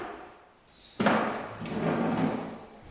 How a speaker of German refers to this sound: Im Nebenraum werden Tische und Stühle gerückt, dass die zahlreichen Gäste nachher Platz finden werden.